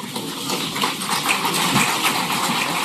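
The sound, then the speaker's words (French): A crowd applauds steadily, a dense, even wash of many hands clapping at once that holds its loudness for the full few seconds, with no voices heard. “Des applaudissements.”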